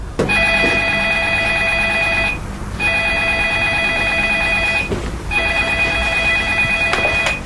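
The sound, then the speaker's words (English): A telephone rings three times with a bright, steady electronic trill as a boyfriend calls his girlfriend, each long ring separated by a short pause, loud with no voices. “In another video titled Speaking Different Languages, the boyfriend calls the girl on the phone and tells her to meet him somewhere.”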